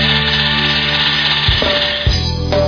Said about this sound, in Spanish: Sí, sería bueno que empieces a batir la crema en la batidora.